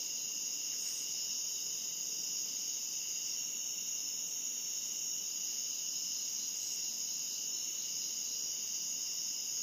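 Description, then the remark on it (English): A steady, high-pitched chorus of crickets trills continuously in the background, an even shimmering drone with no pauses and no voices. “follow the sweet sound of the river or the crickets or the cicadas.”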